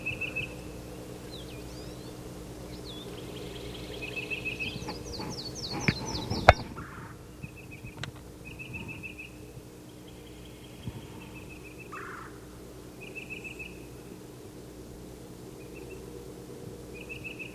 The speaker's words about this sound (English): I can't see what titmouse is calling.